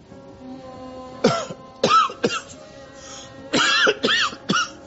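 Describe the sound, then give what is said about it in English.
A fairly loud fit of harsh coughing: about six rough bursts in two clusters with a short pause between, and no talking. “Cough.”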